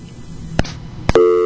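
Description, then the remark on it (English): Two sharp clicks, then a steady electronic telephone tone made of stacked pure pitches, like a busy or disconnected-line signal, from a failed phone call, sounding loud over a low background hum. “Alright, that was a failed attempt at phones again.”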